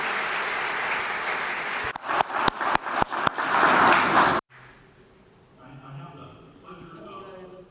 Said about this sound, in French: Je vous prie de bien vouloir vous mettre debout et de les saluer par un grand applaudissement, un fort applaudissement.